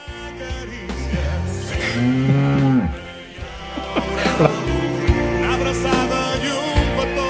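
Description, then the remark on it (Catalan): Cows moo in a busy, noisy barn, with one long, low, drawn-out moo rising and falling near the middle and fainter lowing and clatter continuing around it. “Les vaques que es fiquen per tot arreu”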